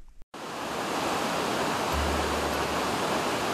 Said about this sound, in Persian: رود خروشان بهارستان منبع خوب پرورش ماهی است.